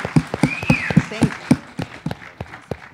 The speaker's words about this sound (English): Let's go to give applause to God for everything what he's doing.